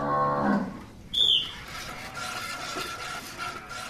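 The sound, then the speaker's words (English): A cow lets out a short, loud moo right at the start during a speed milking competition, as competitors milk cows by hand, followed by a brief high-pitched squeak and a steady wash of noisy background bustle with no voices. “Well, competitors had 2 minutes with a cow, and the cows were actually used to mechanical milking. So they were not too happy about having these girls pulling at their udders.”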